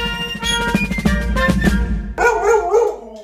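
A short musical jingle with bright, tonal notes over a steady low rhythm, then dog-like barking and yipping sounds woven into the music near the end, loud.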